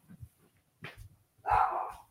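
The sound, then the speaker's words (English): A dog barks: a short sharp bark, then a louder, drawn-out bark-yelp about a second later, with brief low rumbles between. “heads to silence his dog.”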